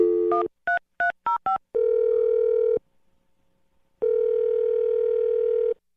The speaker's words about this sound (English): All right, we're going to dial the phone number right now and try and get your second date update, okay? Okay, okay. Okay, here we go.